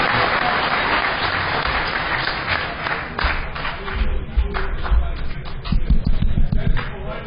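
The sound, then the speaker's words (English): A crowd breaks into sustained applause for the goons, dense clapping filling the whole stretch, with a few cheers and some louder, sharper claps toward the end. “Yeah, I think the goons actually deserve quite another round of applause here.”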